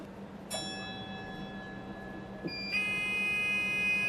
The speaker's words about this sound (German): Die Türen schließen und mit einem Warnsignal setzt sich der Cube langsam in Bewegung. Der Cube ist ein etwas an eine kurze Straßenbahn erinnernder Kleinbus.